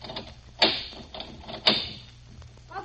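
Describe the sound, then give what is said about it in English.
Two sharp metallic clunks about a second apart as two of three locks on a store door are turned, with faint rattling and scraping in between and no voices. “There's three locks in the store. Then we turn two.”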